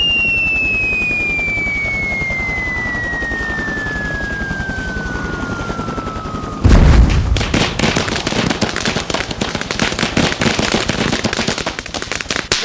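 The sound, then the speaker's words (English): A long falling whistle glides steadily downward in pitch, then a heavy crash as a giant 3-ton wrecking ball, dropped from a helicopter, smashes into over 2 million live light bulbs covering a football field, followed by several seconds of loud, dense crackling and popping glass. “Now, hovering above us, a giant 3-ton wrecking ball, which will be dropped from a helicopter onto the light bulbs in 5 seconds, 4, 3, 2, 1.”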